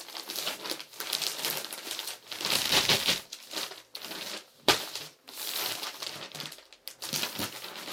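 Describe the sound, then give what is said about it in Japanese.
Women's clothes being folded: continuous soft rustling and crinkling of fabric in uneven bursts, with brief pauses and one sharper flap partway through. No one speaks. “女性ものの服の畳み方が上手になってるよね。”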